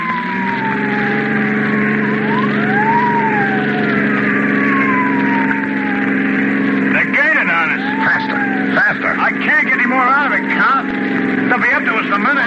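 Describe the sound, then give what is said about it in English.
A police car siren wails in long rising and falling sweeps over a loud, steady engine drone, then breaks into faster, choppier warbles near the end as the police car chases behind a speeding car. “Police car. I can see the headlights in the rearview mirror.”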